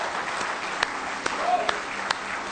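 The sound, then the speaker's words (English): A church audience applauds in praise during a morning service, in a steady wash of hand claps, with a few sharper, louder claps standing out at intervals over the dense, continuous clapping. “Give him one more good hand clap of praise if you love him this morning.”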